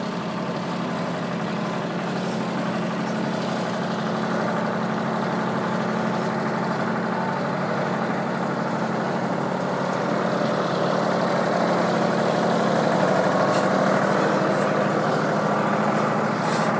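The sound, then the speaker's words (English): A tractor engine drones steadily as it pulls a hayride wagon, a constant low rumble with a gritty mechanical texture that stays fairly loud and even throughout, with no voices. “Oh, we just passed another hayride.”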